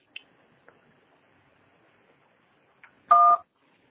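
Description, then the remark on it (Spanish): A few faint clicks, then a single telephone keypad tone on a telephone answering system: a short, steady two-pitched beep lasting about a third of a second. No one speaks. “Marque la tecla gato cuando termine.”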